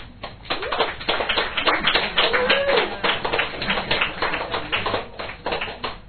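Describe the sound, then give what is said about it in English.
A crowd applauds steadily throughout, a dense patter of many hands clapping at a fairly loud, even level, with a brief vocal cheer rising faintly midway. “she's coming all the way from down the back of the room, so we're a big round of applause.”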